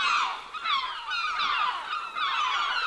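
A noisy flock of gulls calling over one another, with dense overlapping cries and squawks that carry on without a break, fairly loud, with no talking.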